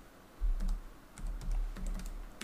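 Rapid keyboard typing, a run of soft clicky keystrokes in uneven bursts with brief pauses, fairly quiet, with a low thumping hum underneath and no voices.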